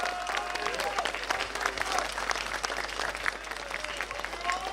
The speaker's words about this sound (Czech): přátelé, velký potlesk.